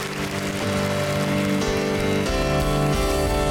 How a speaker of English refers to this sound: Would you thank the Lord with a clap offering? Thank you, Lord, for your goodness and your grace.